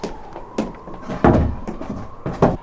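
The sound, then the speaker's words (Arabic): A door is shut by a guard with a few heavy wooden clunks and thuds spread over a couple of seconds, the loudest near the middle, over a faint steady hum. “أيها الحارس، اغلق علينا الباب واذهب لعملك ريثما أستجوبه.”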